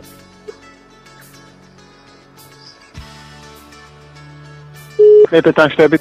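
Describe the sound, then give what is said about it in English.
After about five seconds of quiet low hum, a fast burst of loud telephone dialing beeps plays, several short tones in quick succession as a number is keyed in for an international call to a gas station at an airport. “It's an international call.”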